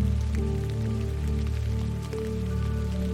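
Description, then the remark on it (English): Steady rain patters on a surface with a soft, continuous hiss and scattered drops, blended with a low sustained musical drone underneath. No one speaks. “Let the rain reach your heart space, filling it with love and compassion.”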